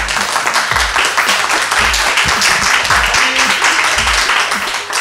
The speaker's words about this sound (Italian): Buongiorno e benvenuti a Radio Dinamo, sempre e comunque per sentirti meglio. Siamo in diretta da Bari, applauso!